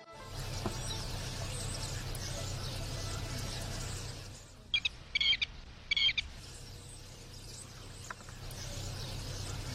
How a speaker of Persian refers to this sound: سار می خواند و لک لک لانه می سازد.